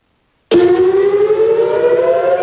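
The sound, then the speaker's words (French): A loud air raid siren sounds at night in the city of Haifa, Israel, starting abruptly after a short silence and holding a steady, slowly rising wailing tone, sustained and droning without any voices. “Il fait nuit noire lorsque les sirènes d'alerte retentissent dans la ville d'Haïfa, à quelques centaines de kilomètres de la frontière libanaise.”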